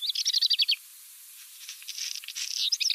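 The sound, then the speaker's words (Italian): A crow calling with a quick series of high, chirpy trilled notes, a short burst followed by a pause and then a longer, fainter run of calls, heard alone in a quiet outdoor setting. “No, niente di particolare, una cornacchia, niente di... Però anche lei ha questo canto, che non è proprio un canto così melodioso”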